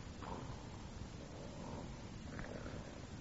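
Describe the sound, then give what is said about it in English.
A man's steady, low rasping rumble of snoring drones on without pause, coarse and throaty, with no voices over it. “That snoring. There's only one man I ever heard snore like that.”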